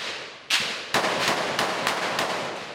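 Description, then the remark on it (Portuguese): Rapid gunshots crack out in an irregular burst, several sharp reports echoing loudly over a constant noisy background, as Civil Police searching for gang members in Complexo da Maré, in the city's north zone, are met with gunfire and return fire. “Uma moradora ficou no meio do tiroteio.”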